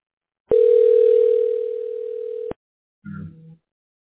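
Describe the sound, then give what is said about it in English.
A single steady electronic phone ringing tone holds one pitch for about two seconds, then cuts off abruptly, followed after a pause by a brief low muffled sound. “calling me.”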